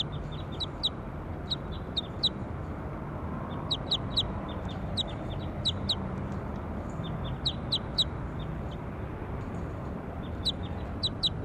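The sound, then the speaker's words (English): A bird calls over and over in quick clusters of short, high-pitched chirps, rising above a steady low background rumble, with no voices. “They're recording bird four.”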